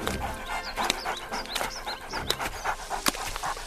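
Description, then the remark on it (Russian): A mine-detection dog pants in quick, uneven breaths and short huffs for a few seconds as it rushes into thick bushes, with faint birdsong chirping in the background and no one speaking. “Смотри, куда собака рванула. В самые заросли.”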